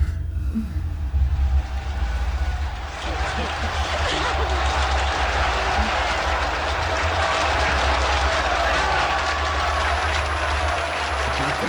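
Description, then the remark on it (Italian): A played applause sound effect after a poem is read: a dense, steady wash of clapping crowd applause that swells in after a couple of seconds and holds loud and constant to the end, with low rumbling underneath and possible voices mixed in. “Fare partire l'applauso.”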